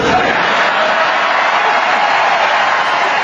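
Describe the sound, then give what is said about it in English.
A large crowd erupts in loud, sustained cheering and applause in response to Newt Gingrich answering "Kill them", a dense wall of clapping and shouting voices that holds steady from start to finish without letup. “Kill them. And the crowd goes wild.”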